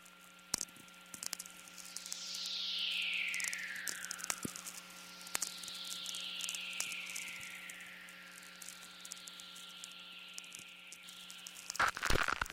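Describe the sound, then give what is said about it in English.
Soft, hissy natural radio whistlers, recorded in the morning, glide slowly downward in pitch, two long sweeps over a bed of crackling static clicks and a steady low hum, ending in a sharp burst of static from a lightning storm. “And in the case of this morning, we're having these very soft, hissy whistlers, which are actually fairly rare.”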